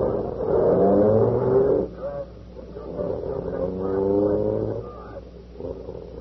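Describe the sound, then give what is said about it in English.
A police car engine revs up and accelerates in two strong surges, loud, its droning pitch climbing before easing off, with a rumbling idle between pulls, as the car heads to the station. “Boy, this is the first time I ever rode in a police car.”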